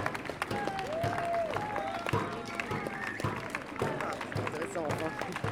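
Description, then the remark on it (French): A crowd cheers and shouts in acclamation of defendants and lawyers leaving a trial at midday on its third day, a dense, continuous roar with scattered clapping and overlapping voices calling out throughout. “Acclamation.”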